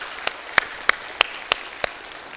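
Hands clap in a steady, evenly spaced rhythm, six sharp claps in a row like an audience clapping in unison, with a faint background hiss and no talking.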